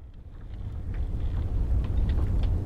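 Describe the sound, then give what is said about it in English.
A deep, steady engine rumble of an icebreaker trapped in a snowstorm drones on continuously, heavy in the low end, with gusty wind and faint hissing layered over it and no voices. “How about the thumming engine of an icebreaker trapped in a snowstorm?”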